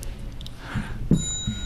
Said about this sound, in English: that was a really weak bell there. So make sure you hit that bell nice and loud, would you?